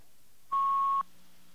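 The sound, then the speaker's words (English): One steady, high electronic beep of an incoming fax lasting about half a second, clear over a faint background hiss, then silence with no voices. “That's what a fax sounds like when it comes in.”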